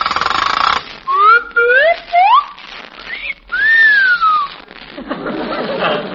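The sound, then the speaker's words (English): The zipper of a tight strapless evening gown rasps as the dress is zipped up, then gives off loud, sliding whistles going around the curve. A few quick rising swoops are followed by one long arcing whistle, trailing off into more scratchy rasping. “The zipper. It always whistles going around the curve.”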